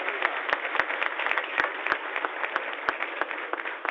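A crowd at the Universidad Católica de Oriente in Río Negro, Colombia, applauds steadily, many hands clapping in a dense, continuous wash with a few sharper claps popping out, sustained at an even level throughout with no one speaking.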